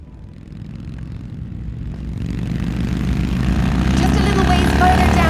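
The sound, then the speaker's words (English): A motorcycle engine drones steadily after the rain has let up, carrying a passenger on the back, its low rumble growing louder and fuller after a couple of seconds as it revs up or pulls away, running continuously throughout. “Hope you don't mind the back of a motorcycle.”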